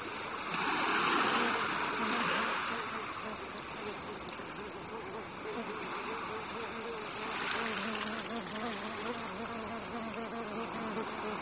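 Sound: crickets chirping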